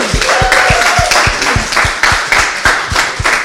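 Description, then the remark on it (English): An audience applauds comedian Sammy Shah after his set, loud and steady, dense overlapping claps with a few sharper, rhythmic claps standing out, without any talking. “Sammy Shah, ladies and gentlemen, keep clapping.”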